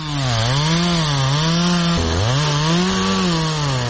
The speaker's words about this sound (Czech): Proizvodila ga je motorna testera u rukama čoveka koji je pilao stare železničke pragove.